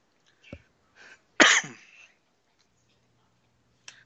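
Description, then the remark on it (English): A short coughing fit with throat clearing: a couple of small rough coughs, then one loud, harsh, drawn-out cough, fading into quiet with a faint click near the end. A single person, no talking. “Had a cough attack there.”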